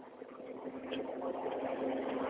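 A recycling truck's engine runs with a steady, droning rumble and a constant low hum, growing gradually louder, on a street of houses with plastic recycling bins out front. No one speaks.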